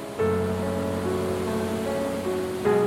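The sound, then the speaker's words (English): Water pouring out of two channels runs downhill without resistance and meets backwater, breaking into a standing white-water wave that roars steadily, a continuous rushing wash with a faint tonal hum running underneath; no one speaks. “because, as you can see, the water that's coming out from the two channels, it's not finding any resistance after because it's going down.”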